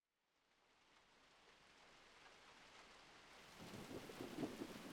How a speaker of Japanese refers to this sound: ま、雨降ってきた。こんな深夜に雷雨なんて、珍しいね。